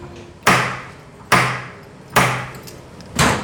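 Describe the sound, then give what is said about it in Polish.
Three heavy, booming knocks on a wooden door at the chalk underground tunnels in Chełm, Poland, struck at a slow, steady pace about a second apart, each blow ringing out and fading before the next, until the door opens. No one speaks. “O, porządnie, aż drzwi się otworzyły, więc myślę, że duch usłyszał.”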